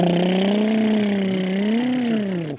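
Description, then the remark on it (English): A voice imitates a blender as a sound effect, speaking to the media after practice about mixing up player combinations, with a steady, buzzing hum that wavers slightly in pitch, holding loudly for about two and a half seconds before cutting off. “I'm going to blender it up.”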